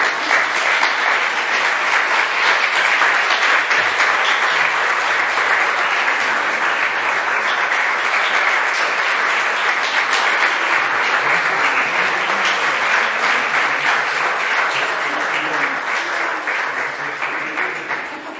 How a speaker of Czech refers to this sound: abychom jim mohli i poděkovat i naším potleskem za to, jakým způsobem nás živili.